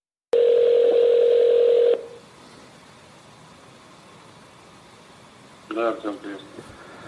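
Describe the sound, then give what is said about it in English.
A single loud, steady telephone ringing tone sounds for about a second and a half, then cuts off into faint line hiss before a voice briefly starts speaking, on a call made to get a member of an assassination squad to pick up the phone. “He has managed to investigate his own poisoning and potential assassination, and they even managed to get members of the assassination squad to pick up the phone and to more or less admit that they were involved.”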